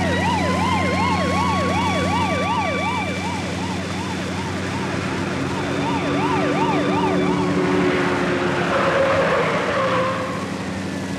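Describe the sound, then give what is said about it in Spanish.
Wailing sirens of two police patrol cars rise and fall in a rapid, repeating pattern over a loud rumble of engines and traffic as they follow, at some distance, a covered truck fleeing at high speed. “ser seguido a cierta distancia por dos patrullas policíacas, Hato emprende la huida vertiginosa en el camión cubierto que oculta a los fracasados samuráis y al hombre increíble como uno de ellos.”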